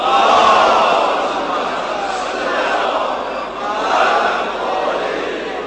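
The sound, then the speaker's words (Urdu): A large crowd recites durood, blessings on the Prophet Muhammad, together in unison, a loud, dense wash of many voices rising and falling in a steady recited rhythm for several seconds. “درود پڑھیے محمد والے.”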